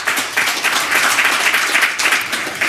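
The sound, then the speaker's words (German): Steady audience applause welcoming a guest dance artist and choreographer, a dense wash of many hands clapping at a consistent loud level throughout, with no speech over it. “Irina, dein Applaus.”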